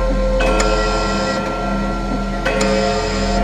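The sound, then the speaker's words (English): A clock chimes as it strikes the hour, with a few struck metallic notes, some in quick pairs, over a steady resonant ringing hum that sustains throughout. No voices are heard. “When the hour was struck, there came from the brazen lungs of the clock a sound of so peculiar emphasis that the musicians paused, the waltzers ceased their evolutions, the giddiest grew pale, and the aged passed their hands over their brows.”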